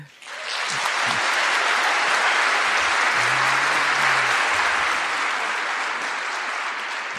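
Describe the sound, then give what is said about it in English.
A large audience in Melbourne claps for a book endorsement, steadily for several seconds, a dense, continuous wash of applause that rises quickly and holds at full strength before easing slightly toward the end. “I note that all three endorsements have gotten applause, rounds of applause.”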